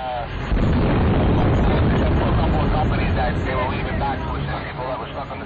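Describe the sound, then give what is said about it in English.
A loud, deep explosion boom, recorded on 9/11 after both Twin Towers had collapsed and before Tower 7's collapse, rolls in after half a second and rumbles on as a heavy, muffled roar, with faint voices underneath. “But what about the sounds of explosions before this one was recorded after both of the Twin Towers had collapsed and before Tower 7's collapse?”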